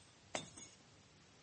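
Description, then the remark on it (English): A bunch of keys is tossed and caught: one sharp, bright metallic jingle, a softer rattle just after, then another clink right at the end. No one speaks. “Throw me the keys, then.”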